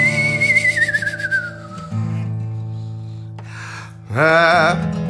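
A person whistles a long note that slides gradually downward, then after a pause a louder, wavering whistle, both over a steady, droning musical backing.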